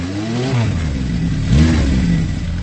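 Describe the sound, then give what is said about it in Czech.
A motorcycle engine revs, its pitch climbing, easing off, then surging again in a second throaty rev, loud and steady with no voices. “Hlavně se se mnou nezvedej na zadní. Ne, na tomhle to ani nejde.”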